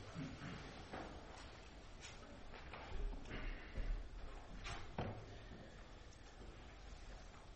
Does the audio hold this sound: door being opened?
yes